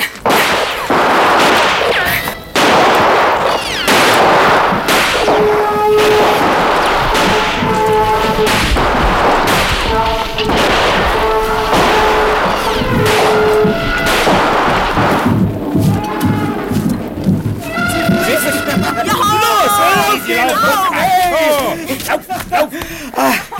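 A series of loud, sharp rifle shots cracks out at irregular intervals, fired to drive off a herd of elephants, layered over sustained tonal, trumpet-like calls and a rumbling background that grows busier toward the end.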